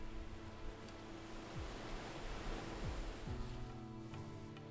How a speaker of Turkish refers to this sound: Üçüncü dalga, ikinci dalgadan biraz daha ileriye uzanmaya başarmıştı ama o da ilk dalganın bıraktığı ıslak izlere ulaşamadan kumların üzerinden usulca geri çekilmişti.